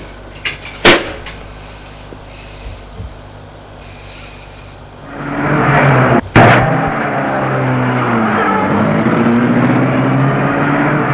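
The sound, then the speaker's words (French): After a quiet stretch with a few faint knocks, the motor of a small white electric car driven by a guard hums in, its whine shifting in pitch, with a sharp clunk as it pulls up and idles. “Est arrêtée une petite voiture électrique blanche marquée Pontoise Plus.”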